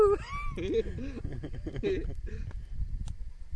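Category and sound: animal, dog whimpering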